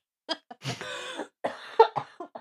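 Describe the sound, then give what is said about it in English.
A coughing fit from a person with a cold who is making themselves cough: a few short, sharp coughs, then a longer hoarse, wheezy cough and another run of rough, irregular hacks in quick succession, with no talking. “Oh no, I gassed too hard and I have a cold. I'm going to make myself cough.”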